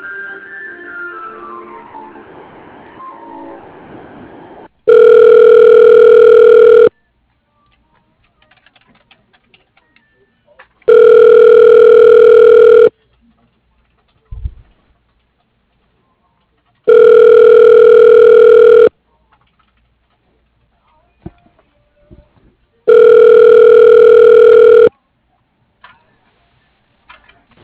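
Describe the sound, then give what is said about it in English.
A telephone line rings back four times while a call is transferred to an assistant's voicemail, each loud steady two-second tone separated by about four seconds of near silence with faint clicks, after a brief muffled stretch of garbled sound. “Okay, I'll have to transfer you to her assistant's voicemail.”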